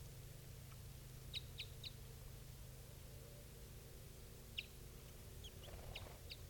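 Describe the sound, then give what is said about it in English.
A female bird, not the female of the mated pair, calls with short, high-pitched chirps, a quick run of three and then a few more scattered ones, over a steady low hum of background noise. “That one female's calling now.”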